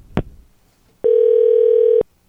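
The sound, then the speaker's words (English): A short click, then a loud, steady telephone dial tone that hums for about a second before cutting off, like a line left open after a call ends. “All right, she's not picking up.”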